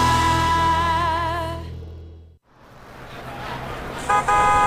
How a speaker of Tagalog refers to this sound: Tara na, yan na yung jeep.